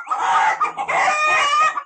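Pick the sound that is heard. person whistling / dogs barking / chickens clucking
chickens clucking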